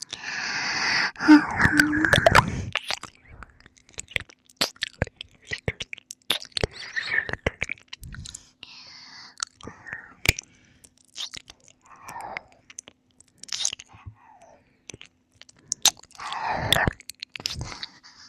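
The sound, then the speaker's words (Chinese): Close-miked ASMR ear-licking mouth sounds: wet smacks, sharp clicks and slurps in irregular bursts, with soft breathy noises between them and no clear speech. “真心帮你舔耳朵，宝宝。”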